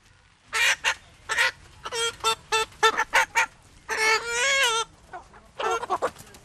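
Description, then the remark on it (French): Hens cluck and squawk in a busy cluster of short, sharp calls with a longer drawn-out cackle in the middle, loud, with no one talking. “Elles vont aller ces poules à l'abattoir.”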